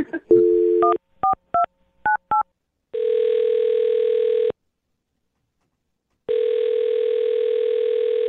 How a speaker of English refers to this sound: I'm going to dial his phone number right now, get him on the phone